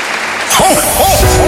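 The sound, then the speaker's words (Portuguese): After a brief quiet moment, an audience breaks into loud, steady applause for God, with voices rising and calling out over the clapping. “Um bem aplauso forte, grande a um Deus grandioso.”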